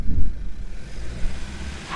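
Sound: school bus engine running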